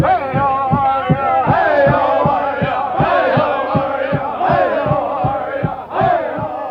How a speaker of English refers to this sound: Despite instructions from Stop Treaty Abuse leaders not to yell racial slurs, members of the crowd, including STA organizers, answer the Chippewa singers with a mocking chant of, "Hi, how are ya?"